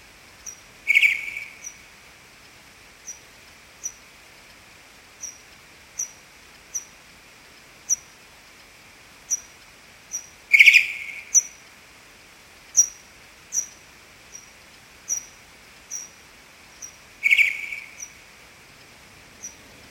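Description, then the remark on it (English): Pipistrelle bat echolocation and contact calls, recorded with an AudioMoth at a high sample rate and slowed down 8 times, as the bats hawk up and down a garden: a steady series of short, high downward chirps about once a second, broken three times by louder, harsher buzzing contact calls. No voices. “Using an audio moth at a high sample rate, I was delighted to record these pipistrelle echolocation signals and contact calls, here slowed down 8 times as the bats hawked up and down the garden.”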